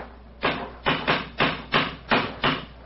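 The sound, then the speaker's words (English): A series of seven sharp, hard knocks of a cane rapped against stonework, struck at a fairly steady but slightly uneven pace, each one loud with a short ringing decay. No one speaks. “It's a hard knock.”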